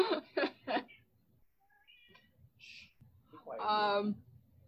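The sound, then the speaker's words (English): A cat lets out one drawn-out, fairly loud meow near the end, following a few short, choppy vocal bursts at the start and a stretch of quiet background noise. “The cat's like, I want to watch the Jedi get killed too.”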